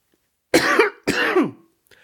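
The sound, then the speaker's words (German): Two loud, harsh coughs in quick succession, each a raspy burst with a throaty, voiced tail, with no talking, like the start of a coughing fit. “Selten hat man gespannter auf einen Hustenanfall gewartet.”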